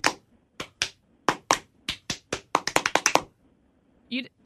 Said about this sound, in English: we clap once, and then they clap once. And then I clap twice, and then they clap twice